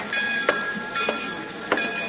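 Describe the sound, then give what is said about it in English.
A passenger train in the radio drama The Girl in Car 32 rolls along the rails, its wheels clacking three times at an even pace over a steady rumble and a faint high whine, with no voices. “Flying out here from New York last night and taking a train back this morning isn't my idea of fun, though.”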